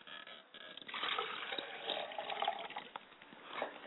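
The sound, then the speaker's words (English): Liquid is poured as a libation to the south in a steady splashing stream that starts after a brief quiet moment and runs for about three seconds, with no voices over it. “I pour libations to the south, and I say Ashe.”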